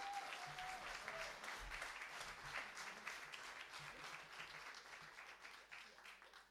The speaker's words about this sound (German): Und jetzt die letzte Pfarrerin, bevor es zur, oder Diakonin, auf der Predigtseite jedenfalls, einen riesengroßen Applaus